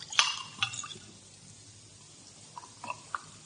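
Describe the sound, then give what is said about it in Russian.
Water poured into a glass: a couple of sharp glassy clinks, then a quiet stretch with a few soft, faint liquid splashes and drips near the end. “Ну, наливай.”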